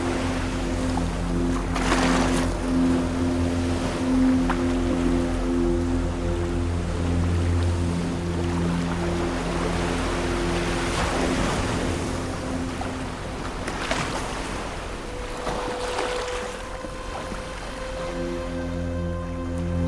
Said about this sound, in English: The long boats sail into the night. Farewell.